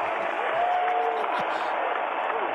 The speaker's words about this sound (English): People clapping.